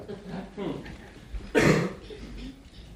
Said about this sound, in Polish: Dzięki Bogu za kaszel. Ale kto to wymyślił?